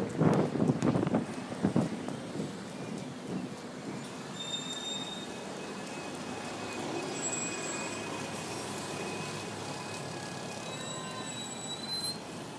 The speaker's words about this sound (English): Well, I said there wouldn't be any traffic here. I'm not quite right. There sounds to be lots of traffic on the other side, queuing. They've got a long wait if they're trying to get through